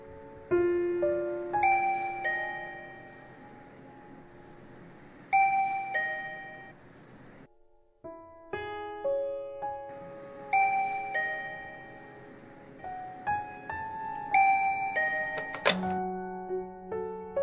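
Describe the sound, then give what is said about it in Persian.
An intercom doorbell rings with a bright electronic chime, playing a short melodic tune, pausing briefly, then repeating it clearly, with no voices. “توی خیالم این بار وقتی آیفون رو بر می دارم یه آشنا داره شعر می خونه.”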